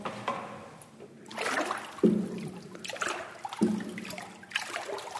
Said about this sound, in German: Wasser rinnt durch Sieb ab. Fasern bleiben am Sieb oben liegen. Das ist eigentlich seit 1900 Jahren das Grundprinzip vom Papiermachen.